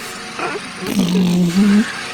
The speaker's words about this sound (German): ich habe es gefunden auf YouTube, Rasenmäher, Einschlafhilfe für Baby